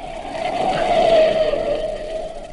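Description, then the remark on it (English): A car driven by a woman alone brakes hard to a stop on a road, its tires letting out a loud, sustained screech over engine and road noise that swells and then fades out over a couple of seconds. “I say the driver must see us, but he isn't slowing down.”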